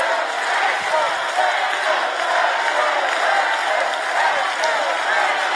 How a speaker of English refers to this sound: This is a pastor encouraging the crowd to chant, let's go, Brandon.